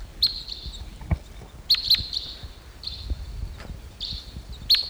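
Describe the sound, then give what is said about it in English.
A bird gives a series of high, bright chittery calls, not flight calls, each a sharp note followed by a brief trill, repeating every second or so over a faint rustling background; two birds perch toward the top of a medium-sized Ponderosa pine. “Here comes a bird.”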